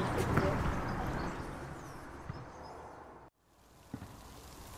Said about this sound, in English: going down with rain, isn't it?